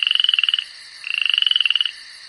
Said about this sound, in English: Teddy, don't be afraid. It's only a frog.